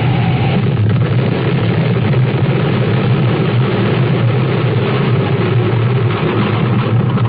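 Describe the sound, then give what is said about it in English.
A woman's space jet engine roars in a heavy, steady low drone, loud and holding constant throughout with no voices, as the plane flies high, then stalls and dives, spinning toward Earth. “takes off in her space jet, flies high, then spins to Earth. Her plane stalls.”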